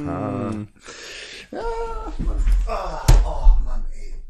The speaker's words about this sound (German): Ah, der Kühlschrank.